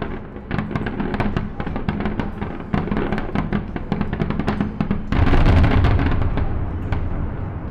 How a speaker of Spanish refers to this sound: Y por eso acompaño este audio con esa grabación que hice desde esta terraza hace unas semanas cuando empezaron las fallas. Y bueno, pude grabar una de esas masquetas que ya no pueden seguir, esas tracas, debido al suspenso de las fiestas.